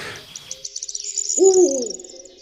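An owl gives one low, fairly loud hoot, preceded by a quick series of faint, high-pitched bird chirps in the background, with no talking.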